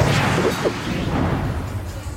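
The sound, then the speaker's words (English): A loud, cartoonish whoosh sound effect from a TV scene where Justin, the Liberty Diner busboy, flips off the gang, a broad rushing swish of air that stays fairly steady for about two seconds with faint thwacking textures inside it, and no voices. “there was like a whoosh”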